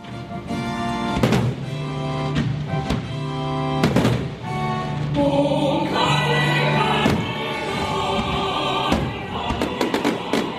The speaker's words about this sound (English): What a welcome to Manila, a spectacular fireworks display to end a lavish state banquet at the Presidential Palace. Not often does New Zealand get a reception like this.